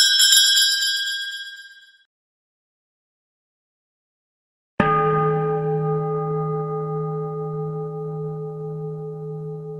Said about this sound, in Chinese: 我这个有个很难找得到的电子风铃 ,ok? 你只要入住电他的呢他就不断是这样跟你拎。